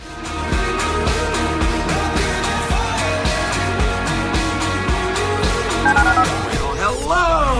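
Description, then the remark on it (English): A rapid, rhythmic run of telephone keypad dialing tones, loud, woven into a driving beat with steady tonal layers and a rising sweep near the end. “To call into the HRNP listener line, dial 713-780-ESPN. Dial the phone.”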